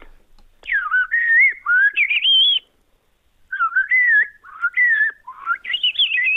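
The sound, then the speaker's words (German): A person whistles an imitation of a Eurasian blackbird's song: two fluid, warbling phrases of rising and falling notes, separated by a short pause, clear with no talking. “Star geht, nee, Amsel kann ich gut. Ja, aber wie geht die Amsel?”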